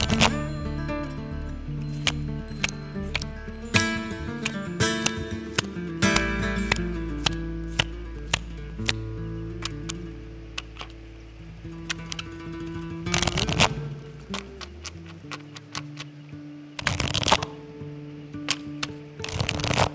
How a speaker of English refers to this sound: Focus on your mindset as I shuffle and pull the next cards.